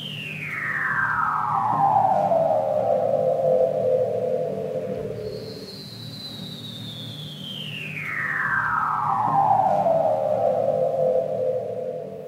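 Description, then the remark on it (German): Two long laser-like seal calls, each a loud eerie tone gliding steadily from high to low pitch over several seconds, the second starting just as the first fades, over a low underwater rumble. “Also Ariel hat auf jeden Fall nicht nur den laserartigen Robbengeräuschen gelauscht”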